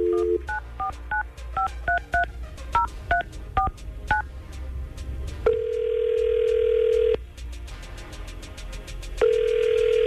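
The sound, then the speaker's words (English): A rapid string of touch-tone keypad beeps dials a number, followed by two long, steady ringback tones as the call rings out, with faint background hum and no talking; a call placed by the 99.5 QIK Tampa Bay morning radio crew. “we're going to try to figure it out right now and get Adam on the phone”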